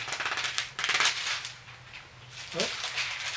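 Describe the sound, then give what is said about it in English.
Thin India paper pages of a Bible being turned to Psalm 37, with several soft, crisp rustles and crinkles over a low steady hum, and a brief murmur of voice near the end. “Oh, India paper's giving me trouble here.”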